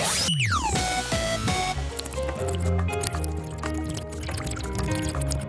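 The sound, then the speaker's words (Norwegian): A homemade wave-splash effect: continuous, fairly loud sloshing and gurgling liquid sounds that churn steadily for several seconds, with no talking over them. “Det en sånn bølgeskvulp-effekt som du prøver på.”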